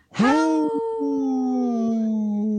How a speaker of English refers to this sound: Hey, such a sad howl.